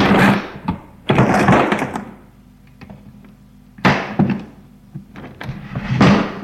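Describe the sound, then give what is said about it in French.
A desk drawer is opened, sliding with several rasping scrapes, separated by small knocks and clicks as it moves and settles; no voices. “Va à la table de son bureau, y met une enveloppe bien en évidence et ouvre le tiroir.”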